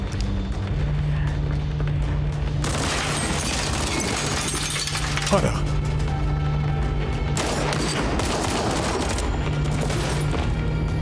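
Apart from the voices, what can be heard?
gunfire volley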